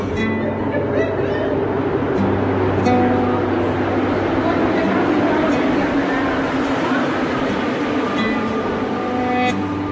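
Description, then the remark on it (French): Steady, loud rumble of a metro train in motion, heard from inside the carriage, with a constant mechanical hum and faint background voices of passengers throughout. “Hop, on rentre dans le métro.”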